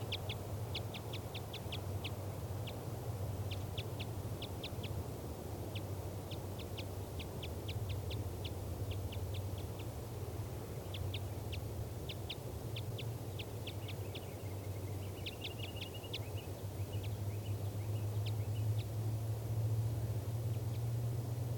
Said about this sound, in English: Recording that female still off the nest in that spruce tree after 2 minutes, and she's still calling.